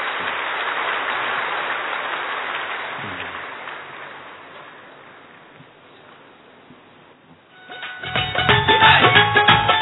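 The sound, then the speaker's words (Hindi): A crowd claps steadily in welcome for several seconds, the dense applause slowly thinning and fading away before louder music starts up near the end. “एक बार सभी अपने लिए जोरदार तालियों के साथ स्वागत कर लें।”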